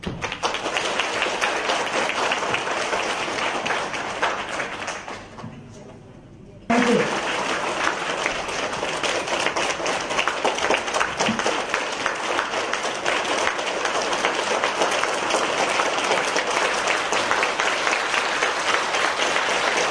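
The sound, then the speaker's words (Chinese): A crowd claps warmly and steadily in dense, sustained applause welcoming Master Lu to give a Buddhist teaching, briefly thinning to a quieter lull before surging back to full strength for the rest of the stretch. “那么一会儿我们以热烈的掌声欢迎卢台长为我们今天开示。”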